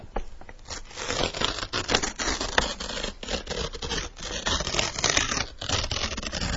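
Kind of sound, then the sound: household object, paper being ripped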